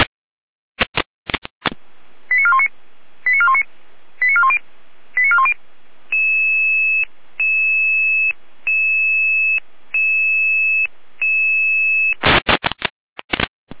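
A radio dispatch alerting tone sequence calling out crews to a traffic accident on the road between Allendorf and Schwarzburg, near Fasanerie: static bursts, a quick series of short electronic tones, then a steady run of about six longer, evenly spaced tone pulses, ending in crackly bursts. No one speaks.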